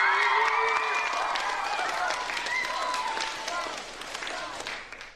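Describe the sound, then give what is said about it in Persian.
A crowd at a school bursts into dense, steady clapping mixed with high-pitched cheers and whoops for Roy Kent, captain of AFC Richmond, the applause holding strong before easing off slightly at the end. “بس همراه من کاپتان AFC ریچموند رو تشویق کنین.”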